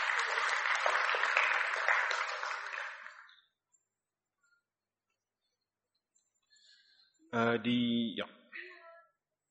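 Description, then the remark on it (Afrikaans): An audience at an awards event in a hall claps steadily for a few seconds for pupils receiving certificates, then the applause fades into silence. Near the end, a short, loud, high-pitched whinny-like call sounds. “Kom ons geef hulle lekker hande klap.”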